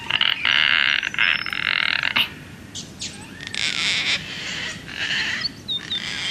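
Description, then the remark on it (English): Gang-gang cockatoos and larger yellow-tailed black cockatoos call at the same time: a loud, harsh, creaking burst for about two seconds, then a series of softer, raspy creaks like a door creaking open, with no one talking. “And both of these birds are calling at the same time.”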